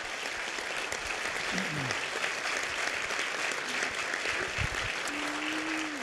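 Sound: church audience applause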